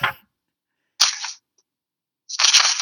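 Someone picks up sheets of paper and slides them against each other in three separate bright, hissing swishes, the first short and the last loudest, with silent gaps between them and no voices.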